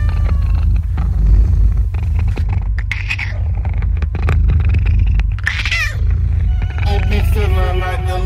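A loud, continuous cat purr rumbles throughout, with several drawn-out meows rising over it near the end, arranged as part of a music track.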